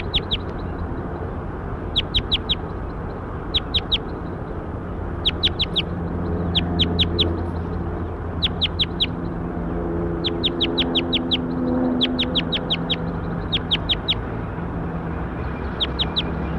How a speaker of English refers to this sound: So recording bird 7-8.